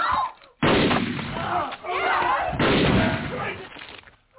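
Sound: gunshot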